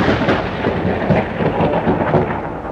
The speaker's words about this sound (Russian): Над площадью громыхнула грозовая туча.